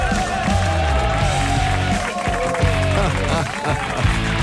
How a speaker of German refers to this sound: Habt ihr eine Runde oder Lust auf eine Runde Stampf und Klatsch?